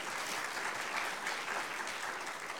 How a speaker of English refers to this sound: You can clap. That's okay.